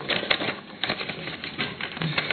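Dog-eared paper pages of a document being leafed through during a meeting, a quick run of soft, crisp rustles and flicks that rise and fall over a couple of seconds, with no voices.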